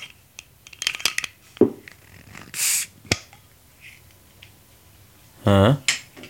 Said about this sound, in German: Es klang, als ob du eine Flasche geöffnet hast. Ja, jetzt ist die Frage, was für eine? Jetzt hast du schon gesehen. Ich würde mal vermuten, es war eine Limonade. Ja, weil es gelb ist.